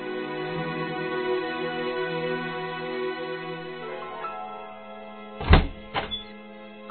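An apartment door is opened to an unexpected visitor with a heavy wooden thunk, quickly followed by a second, softer knock, after several seconds of steady, sustained tones.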